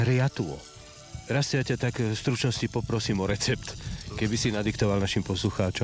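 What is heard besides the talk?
bacon sizzling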